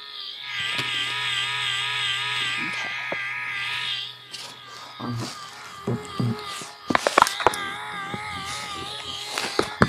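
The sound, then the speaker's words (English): A vibrator running at full power, with both vibration and rotation turned all the way up, hums with a steady low buzz beneath a wavering, warbling high-pitched motor whine, joined by scattered clicks and rattling bursts toward the end. “Full power, this is what the vibration and rotation completely up. This is what it sounds like.”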